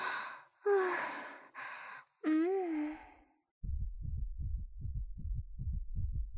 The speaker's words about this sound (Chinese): 哎呀，我的心跳怎么越来越快了？